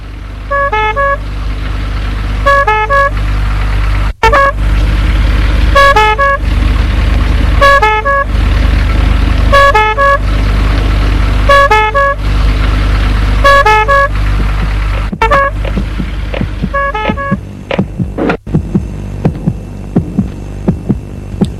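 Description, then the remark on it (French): A fire engine's two-tone horn blares in a steady repeating cycle over a heavy, droning engine rumble as firefighters arrive at the scene of a stabbing, then cuts off, leaving the idling engine and a few scattered clicks. “Pompiers.”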